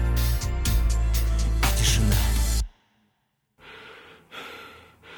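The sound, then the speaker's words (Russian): Heavy, drawn-out breaths, a loud noisy exhale followed by a short silence, then softer, weaker breaths as the breathing trails off. “Дыхание медленно сходит на нет, и пульса не стало.”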